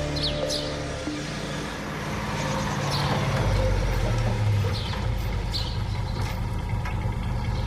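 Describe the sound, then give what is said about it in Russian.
A heavy Soviet tank engine rumbles continuously, a deep steady drone that swells slightly midway, with faint metallic clanks and hisses scattered above it and no voices. “Ist das ein Panzer? Sowjetischer?”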